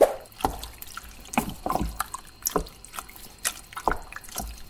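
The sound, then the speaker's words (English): Canned tomatoes poured into a pan and stirred with a bit of water: irregular wet sloshes and soft scraping splashes, moderately quiet, repeating unevenly for a few seconds with no voices. “I poured the tomatoes in and I'm just stirring it with a bit of water.”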